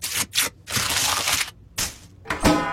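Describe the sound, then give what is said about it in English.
Crisp cracking and crunching sounds come in several short bursts as the chocolate shell of a Cadbury Cream Egg is cracked open like an egg, with a sharper snap near the end. “If you eat yours by cracking it open like an egg, that means you're a bit punchy.”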